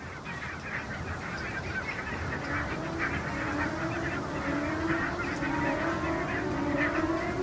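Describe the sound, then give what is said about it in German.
A flock of greylag geese taking off, with many overlapping honking calls filling the whole stretch over a steady, rushing background noise. The calling stays dense and fairly loud throughout, with no talking. “Jetzt fliegen da die Graugänse auf.”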